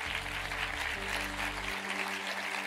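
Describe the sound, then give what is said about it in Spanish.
Steady applause from an audience for the Lord, a dense crackle of many hands clapping without pause, with a low sustained musical drone beneath that drops out near the end. “Vamos a iniciar a dar un aplauso al Señor.”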